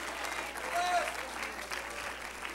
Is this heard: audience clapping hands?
yes